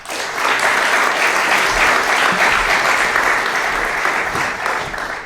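An audience claps steadily and loudly for about five seconds, a dense, even wash of many hands with no voices standing out, fading slightly at the end.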